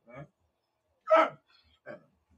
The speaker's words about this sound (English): One of our sanctuary staffers is here. That's why Toby's barking.